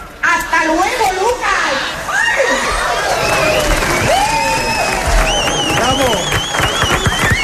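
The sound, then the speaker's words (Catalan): A large crowd at a world record attempt by Chiquito impersonators cheers and shouts loudly and continuously, with many overlapping voices and some applause, sustained at a high level throughout. “Això que acabeu d'escoltar és un rècord mundial d'imitadors de Chiquito.”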